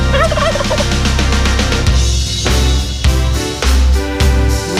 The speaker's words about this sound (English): Did you hear that? I think we got some turkeys running around here. There's one now. Hey, get out of here.